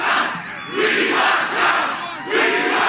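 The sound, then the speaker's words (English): A boisterous crowd at a Trump rally in Shrecksville, Pennsylvania, about an hour outside Philadelphia, cheers and shouts in loud, swelling waves, the roar rising and dipping roughly every half second to a second, with no single voice standing out. “Boy, what a boisterous crowd it was in Shrecksville, Pennsylvania, about an hour outside of Philly.”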